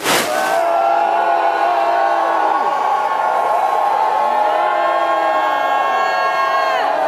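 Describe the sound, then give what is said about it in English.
A large crowd lets out a sustained, loud roar of yelling and screaming, many voices overlapping continuously without pause, filling the space from start to finish. “If you are moved to scream, scream out with your yell.”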